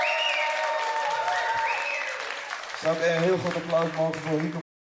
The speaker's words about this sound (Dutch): Publiek laat je horen. En nog steeds. Jullie kunnen het beter doen. Dus mag ik iets meer applaus. Iets meer, iets meer, iets meer.